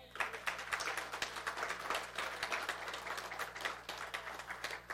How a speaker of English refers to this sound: How about a round of applause for our praise team?